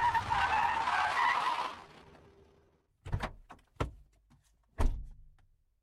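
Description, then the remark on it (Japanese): A steady rushing rumble, like a car moving or braking, fades out, then a car door shuts with three solid thuds spaced about a second apart in otherwise quiet surroundings, at night on a dark, narrow mountain road without streetlights. “まどろみの中にいた私の目を覚ましたのはドアを閉める音だった。”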